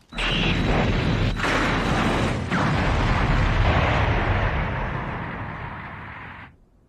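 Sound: grenade explosion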